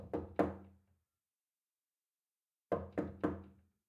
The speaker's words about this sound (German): Nachdem sie zurückgekehrt war, klopfte sie behutsam an die Schlafzimmertür.